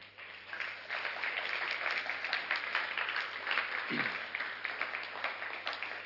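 A church audience breaks into steady applause for Jesus, many hands clapping in a dense, sustained crackle that holds at an even loudness for several seconds without any voices.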